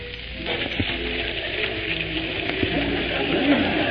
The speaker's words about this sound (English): And right here is where I spend many happy hours. Let us tarry a while by this waterfall. Waterfall?